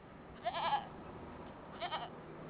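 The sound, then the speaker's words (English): Two wavering goat bleats sound a moment apart in the village of Mashinda on the outskirts of Melange, each a short quavering cry over a faint steady background hiss with no one talking. “One thing that you notice in the village of Mashinda is that apart from these few goats, maybe two or three goats in the entire village, you see no animals, no cows, no sheep, no chickens.”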